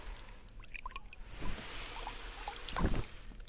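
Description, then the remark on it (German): Soft water sloshes and laps against the hull of a pirate ship in a steady, gentle wash on a calm sea with barely a breeze, with a few brief splashes and creaks rising and falling, quiet, no voices. “Nur sanft umspielen die Wellen das Piratenschiff.”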